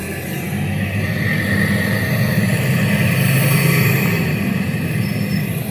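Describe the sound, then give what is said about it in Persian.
A heavy bus engine rumbles steadily as the bus arrives at a stop after a half-hour wait, a deep continuous drone with some mechanical whine above it, holding at a fairly loud, even level throughout without any voices. “بالاخره اتوبوس رسید.”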